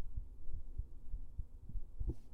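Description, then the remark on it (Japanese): A mother's heartbeat, muffled, picked up through a stethoscope pressed firmly against her: steady, fairly quick low thumps repeating about twice a second over a soft rumbling background, with no voices. “結構ね、これ押さえつけてないとね、心音聞こえないの。”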